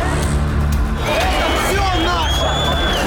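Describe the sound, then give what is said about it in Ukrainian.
A crowd of many voices shouts over one another in a loud, continuous hubbub, with raised, strained cries rising and falling above the dense babble, some shouting that this is their country while others hit them and shout back that it is theirs. “Одни кричат, это наша страна, а другие бьют и говорят, нет, наша.”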